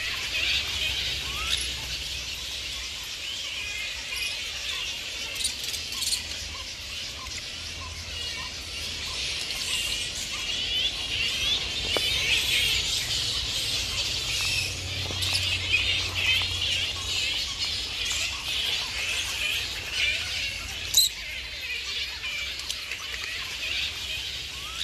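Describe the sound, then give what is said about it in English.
A steady, dense chorus of high-pitched squeaks and chattering calls from the Yarra Bend colony and release enclosure of grey-headed flying foxes, continuous throughout with occasional sharper chirps standing out, with no talking. “And thank you, Tamsin, for these sounds from the Yarraben colony and release enclosure.”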